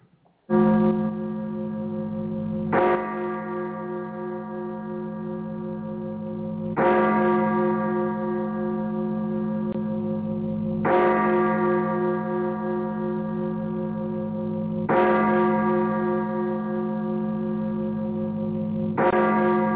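Church bells toll at 2 o'clock on July 4th in a slow, steady rhythm, each loud, resonant strike arriving about every four seconds and ringing on with a long humming decay that overlaps the next.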